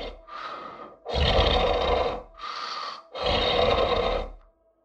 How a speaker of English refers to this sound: The monster knows I'm there, though. Sometimes it sits on the bed next to me and doesn't say a word. I can just hear it breathing.